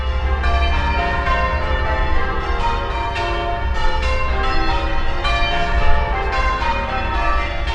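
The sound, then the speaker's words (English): Church tower bells at St. John ring out in a steady, overlapping sequence, each strike blending into a rich, continuous wash of resonant tones with no voices present. The heaviest bell weighs three quarters of a ton, and its momentum carries it from strike to strike. “The heaviest tower bell at St. John weighs 3/4 of a ton.”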